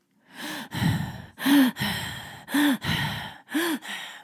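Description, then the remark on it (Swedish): A voice imitates heavy, rasping breathing up close, about four loud in-and-out cycles in a steady rhythm, each inhale catching with a slight voiced groan, with no other sounds. “någon som andas väldigt, väldigt nära honom.”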